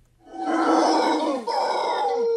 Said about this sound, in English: There are also howler monkeys there, and howler monkeys are incredibly loud.